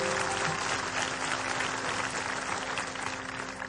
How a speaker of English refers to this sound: So, hey, church, why don't we clap our hands for all those who've joined us through TV and through media.